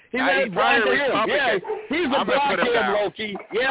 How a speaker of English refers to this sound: See, now you got your dog mad at me. Your dog's barking. He's mad at you. He's a Republican.